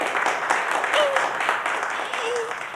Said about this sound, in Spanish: Ahora con ustedes, la séptima concursante, la señorita Ana Gata de la Luna y el Tejado. ¡Recibámosla con un aplauso!